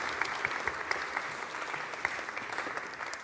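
An audience applauds steadily, a dense wash of many hands clapping at an even level, with a few sharper individual claps standing out, no voices over it.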